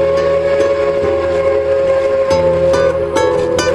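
A steady, loud steam whistle blows its sustained, multi-toned wail over the rumble and clatter of a train, with sharp metallic clanks and bangs punctuating the noise.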